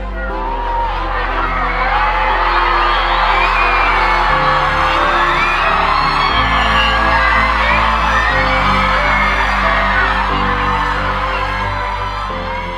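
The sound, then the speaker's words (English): A large crowd cheers and whoops loudly and continuously in awe as clouds briefly part during the 2017 Great American Total Eclipse, many overlapping voices shouting and yelling in excitement, with sustained low tones underneath throughout. “The awestruck cheers of the crowd”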